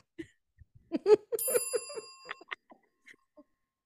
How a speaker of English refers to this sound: If you haven't already, please make sure to like, subscribe, and click the notification bell. Ding.